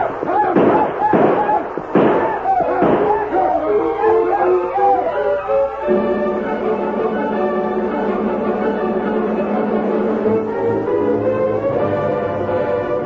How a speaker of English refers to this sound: Black leader broke his stride when he heard the shots and yelling ahead of him.